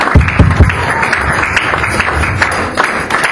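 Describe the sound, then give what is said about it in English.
A church audience claps and applauds steadily for Jesus after a prayer, a dense continuous wash of many hands with a few louder claps standing out near the start, with no one talking. “Acclamons-toi très fort pour le roi des rois. Clap for the heart.”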